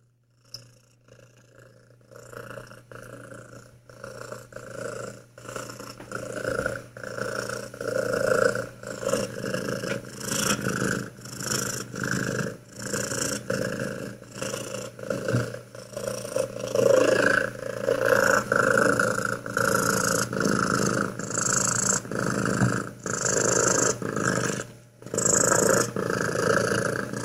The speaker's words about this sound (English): Now for all you ASMR freaks out there, here's a cat purring.